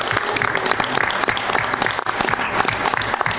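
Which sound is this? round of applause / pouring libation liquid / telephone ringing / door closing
round of applause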